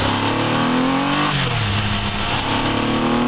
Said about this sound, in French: Aujourd'hui, on est au guidon d'un 3 cylindres qui a bientôt 25 ans, qui fait partie de la première génération du renouveau de Triumph. Les derniers 3 cylindres avec leur moteur à carburateur.